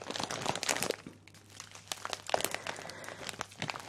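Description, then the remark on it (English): Crisp crinkling of a plastic bag filled with soy wax flakes for making candles, handled in irregular bursts with crunchy rustles and brief pauses, no voices present. “I remember at the time the bag was really tingly, crunchy and nice.”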